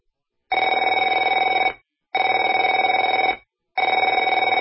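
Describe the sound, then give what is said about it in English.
A telephone rings in three loud, even bursts, each a buzzy trilling tone lasting over a second with short silent gaps between. No one speaks. “Afraid to answer it?”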